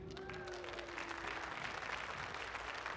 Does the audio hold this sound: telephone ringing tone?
no